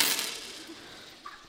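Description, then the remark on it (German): Coins left over from holidays jingle briefly with a bright metallic rustle that fades, then a single clear clink rings out near the end, moderately quiet, with no voices. “Das sind ja die Münzen, die was von Urlaub immer überblieben sind.”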